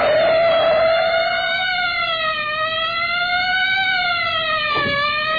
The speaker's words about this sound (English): Why don't you know a police siren when you hear one?